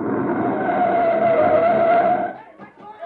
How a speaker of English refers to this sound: Hold up there. Hold up. There's a recon car coming up.